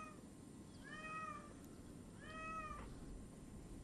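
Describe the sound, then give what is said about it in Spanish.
A cat meows twice, with a pause between the calls. Each meow is clear and drawn out, rising then falling, over a low background hum. “Señor, he visto que se preocupa mucho por este gato. Y aquí lo tiene usted ya.”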